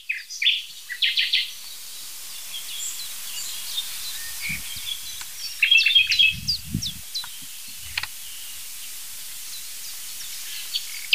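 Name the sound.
nightingale singing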